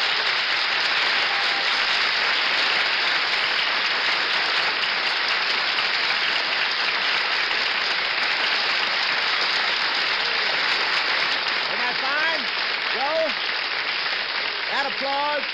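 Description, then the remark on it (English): Sustained, dense applause from a large studio audience for baseball relief pitcher Joe Page, a steady wash of clapping that fills the whole stretch at full volume, with a voice starting to speak over it near the end. “That applause is for you, Joe, and I'll bet there are a lot of people sitting at their loudspeakers tonight applauding your great performances of the series.”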